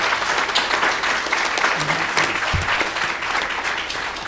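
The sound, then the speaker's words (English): An audience gives the candidates at an evening candidate forum a sustained round of applause, dense steady clapping at an even loudness throughout with no voices standing out above it. “Ladies and gentlemen, let's give our candidates a big round of applause for being here tonight.”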